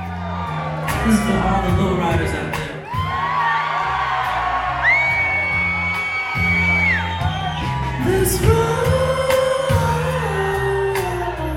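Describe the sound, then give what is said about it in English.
A large concert crowd on the West Coast screams and sings along word for word, loudly over booming music, many voices merging into a continuous roar with rising whoops and sustained sung notes throughout. “Out here on the West Coast, like, people start screaming and they sing word for word.”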